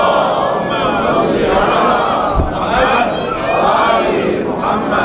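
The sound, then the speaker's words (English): A large crowd chants salawat together in unison, a loud, sustained wall of many voices rising and falling in two swelling waves with no pauses. “You can do a much better salawat than that, inshallah, please.”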